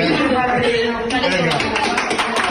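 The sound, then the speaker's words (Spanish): Applause from a crowd greeting a coronavirus patient leaving intensive care at a polyclinic, dense scattered clapping that grows sharper partway through, mixed with overlapping voices and cheering. “Por ejemplo, el aplauso para un paciente, primer paciente seguramente, que sale de cuidados intensivos de la policlínica enfermo de coronavirus.”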